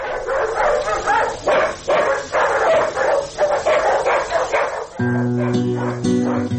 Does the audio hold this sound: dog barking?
yes